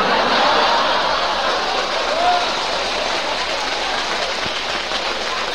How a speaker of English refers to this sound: Yeah, they applauded like he was here, didn't they?